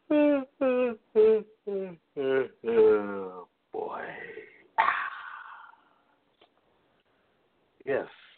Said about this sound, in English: Gentlemen, that was a live yawn you heard on the air